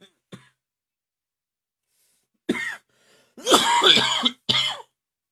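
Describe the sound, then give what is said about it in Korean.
A person coughs and clears their throat in a few harsh bursts: a brief one at the start, then three louder hacking coughs after a pause, with no talking. “요즘에 다시 또 기침이 좀 나기 시작해요, 또.”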